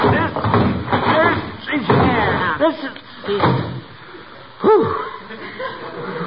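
A very heavy old trunk, which jingles when moved, is hauled into a house on a count of three with scraping and a few dull thuds as it is set down, while people grunt and strain with effort.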